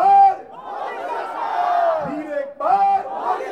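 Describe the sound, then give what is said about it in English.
A large crowd at an Indian election rally shouts and chants together, voices rising in loud overlapping waves with drawn-out cries, briefly dipping before surging again. “Everyone shouts at everyone else.”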